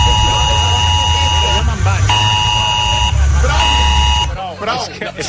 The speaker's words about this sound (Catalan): Prou. Aquesta alarma invalida totes les zones sonores que hi ha al voltant. Bueno, per això és una alarma.